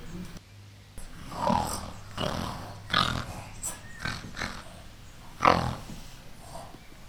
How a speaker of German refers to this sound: Grunzen ziehen die Schweine weiter und werden hoffentlich gefangen.